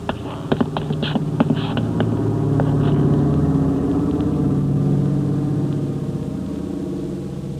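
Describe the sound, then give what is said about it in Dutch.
A service airplane flies overhead: a steady, low engine drone with a throbbing hum that swells toward the middle and slowly eases, with a few brief clicks at the start and no talking. “Hoor je dat? Dienstvliegtuig.”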